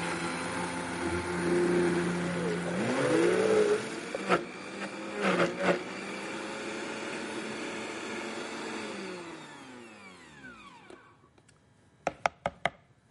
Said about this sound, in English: I've got some frozen banana in here already. I'm just going to add a little bit more. Put the cover on my Vitamix blender here. And let's give this a whirl.